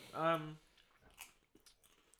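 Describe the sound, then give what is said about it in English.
Someone crunches potato crisps, a short run of crackly bites and chews following a brief hummed voice sound. The crunches are fairly quiet and irregular. “These are rich crisps. Yeah. So you would expect a real good crunch.”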